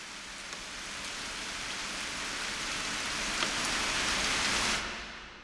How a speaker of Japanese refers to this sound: それより急いで帰りましょう。雨が強くなってきました。